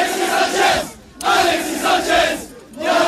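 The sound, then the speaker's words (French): A large crowd of Olympique de Marseille (OM) football fans chants and cheers loudly in surging waves amid flares, welcoming Chilean player Alexis Sánchez off the plane on a Tuesday evening; the roar briefly dips twice before swelling again, with steady tonal chanting running through it. “Le Chilien a été accueilli donc mardi soir à sa sortie de l'avion comme une rockstar au milieu des chants et des fumigènes.”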